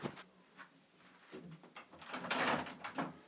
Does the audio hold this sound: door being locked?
yes